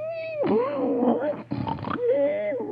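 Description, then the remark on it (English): A voice imitates the loud, comical snoring of Brer Buzzard, lying unconscious after flying into a tree: a high whistling tone, then a long rasping, grunting snort, and the whistling returns as it trails off. “And there he lays with a different kind of snore.”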